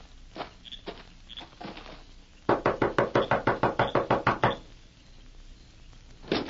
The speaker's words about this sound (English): You knock on door. When man come out, me get him.